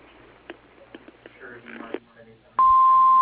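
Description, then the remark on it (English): A voice speaks briefly on the First Choice Builders answering machine, then a single loud, steady answering machine beep cuts in and holds a constant pitch until the end. “Sorry we can't take your call at this time, but if you leave your name and number after the beep, we'll call you back.”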